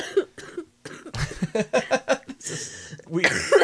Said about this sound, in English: Stop making me laugh and I won't cough so much.